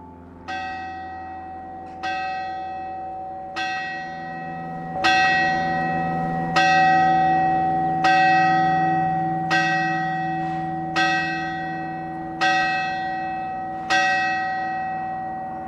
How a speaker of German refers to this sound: wir haben jetzt hier extra den 9-Schlag abgewartet. Der hat für dich eine spezielle Bedeutung, das Läuten.